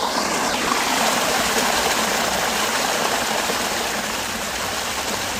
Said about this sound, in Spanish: Y en mitad del desierto, este sonido de agua, ¿qué significa? Pues mira, este sonido está grabado por mí hace unos días en una fuente, en un arroyo que fluía por el palmeral de Alula. Es un oasis de kilómetros, claro.